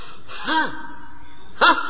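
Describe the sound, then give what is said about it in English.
Two sharp, voiced gasps about a second apart, fairly loud, the first drawn out slightly longer, with quiet breathy pauses in between and no talking; a person breathing very heavily in religious ecstasy. “Sometimes he laughs, sometimes cries, sometimes falls fainted, sometimes rolls on the ground, sometimes runs very quickly, speedily, sometimes dances very wonderfully, ecstatic, sometimes breathing very heavily.”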